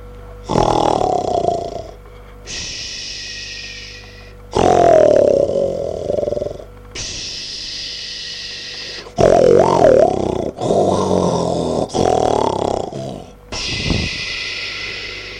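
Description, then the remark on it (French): A voice imitating a snoring wolf: about eight loud, rough snorts alternating with breathy, hissing exhales in a steady rhythm, with no talking. “Le loup. Le loup qui ronflait.”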